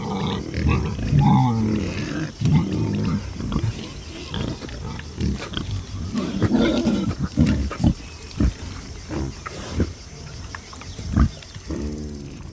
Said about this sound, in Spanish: Se trata de un grupo de jabalíes. A la cabeza del grupo va un imponente macho, seguido de la hembra y sus tres pequeños rayones que juguetean escondidos entre una pequeña encina chaparra.